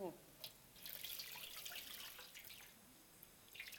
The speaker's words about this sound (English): And he poured water on their feet.